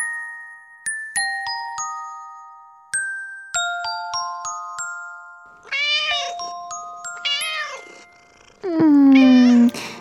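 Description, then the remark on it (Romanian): A few bright chime notes ring out, then a cat meows three times, ending with one long, loud, drawn-out meow. “Miau, miau. Bine, vine pisicuță.”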